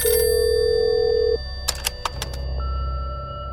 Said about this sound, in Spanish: Con el departamento 8A ya vacío, el teléfono volvió a sonar. Y como nadie contestó, se activó el contestador automático.